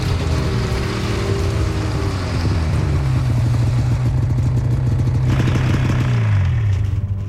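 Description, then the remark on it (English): A snowmobile (snow machine) engine drives along in winter near Norva, heading out to cut firewood on the riverbank, with a loud, steady buzzing drone; its pitch slides down partway through, holds, then shifts again near the end, with no talking. “Spend cash on heating oil, or head out in a snow machine and chop down firewood.”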